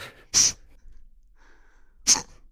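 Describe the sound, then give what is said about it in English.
Two short, stifled sneezes, swallowed rather than let out, each a compact, muffled burst about a second and a half apart, with near-silence between them and no talking. “You know, when you swallow your sneezes, which they tell you not to do.”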